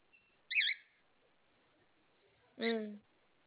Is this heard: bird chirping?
yes